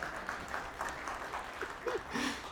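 An audience breaks into steady applause, a dense crackle of many hands clapping at once, with a few voices calling out faintly over it before it tapers.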